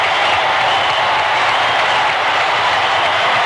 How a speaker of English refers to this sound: Oh, the roar going up from this crowd. A 6-4-3 double play, and it's all over.